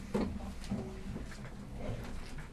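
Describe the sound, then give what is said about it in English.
A chair is pulled in, dragging and scraping across the floor in a few short, uneven pulls, moderately loud, with faint room noise around it and no talking. “Okay, bring the chair in a little bit.”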